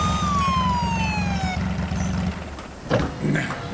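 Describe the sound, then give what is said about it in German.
A car driven by Kommissar Reynolds brakes hard to a stop, a high squeal sliding downward in pitch over a rumbling engine, which cuts off as the vehicle stops, followed by a brief thump. “Direkt vor ihnen kam der Wagen nach einer scharfen Bremsung zum Stehen.”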